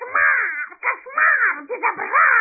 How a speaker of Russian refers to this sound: Звери возмущенно зашумели, а больше всех возмущался попугай.